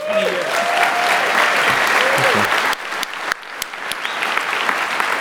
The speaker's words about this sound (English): He had a family emergency, so if I get a round of applause for Locke.